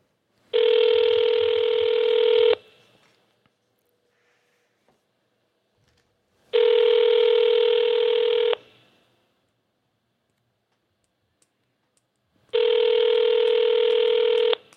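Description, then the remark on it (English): A telephone rings on the line as a call is placed to someone where it is 10 o'clock: three long, steady, buzzy tones, each about two seconds, evenly spaced with quiet gaps of roughly four seconds between them. “Why are we calling them at 10?”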